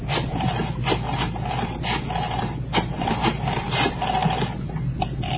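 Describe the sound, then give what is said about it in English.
A telephone being dialed to call Hudson High School: a steady mechanical whirring and rasping with sharp clicks at irregular intervals, like a rotary dial being turned and spinning back, with no voices. “Okay, right, I'll dial.”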